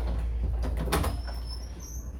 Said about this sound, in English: This is my room. I'm gonna close the door.